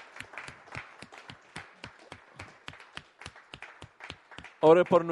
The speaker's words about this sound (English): Dale un aplauso al Señor. Please clap your hands for Dios him.